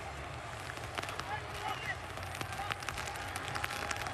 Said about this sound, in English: But also when you listen to this, just keep an ear out for the rain. Yeah, it's so heavy. have a listen to this.